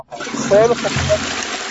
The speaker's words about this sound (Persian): آره صدا فقط سیفونو بکشم فقط سیفونو بکش اینجوری بره.